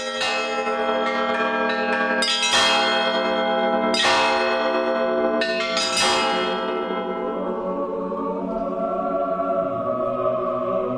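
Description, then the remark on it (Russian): Bells in the bell tower of the Church of the Icon of the Mother of God "Joy of All Who Sorrow" in the settlement of Gorodishche ring out loudly, calling residents to prayer, in a rapid cascade of overlapping strikes, their rich tones sustaining and slowly fading into a long shimmering decay, with no voices present. “Именно отсюда уже больше 100 лет возносится колокольный звон, который призывает каждого жителя к молитве.”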